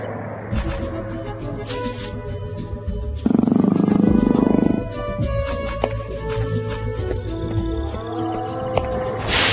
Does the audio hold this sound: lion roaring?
yes